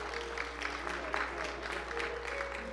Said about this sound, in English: Now give the Lord a hand clap of praise this morning